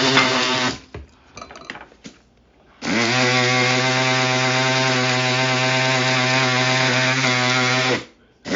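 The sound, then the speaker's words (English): A small, clean electric coffee grinder regrinds the larger pieces sifted out of ground coffee. It whirs in a short burst, pauses with some rattling, then runs in one loud, steady, high-pitched motor whine for about five seconds before cutting off. “So I am sifting and putting all the big pieces back into my handy dandy clean coffee grinder.”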